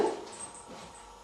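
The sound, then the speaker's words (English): A small dog, Max, gives one short, sharp yip at the start, followed by a faint, thin whimpering. No one speaks. “how about your dog? What do you think about your dog? Is he a good dog?”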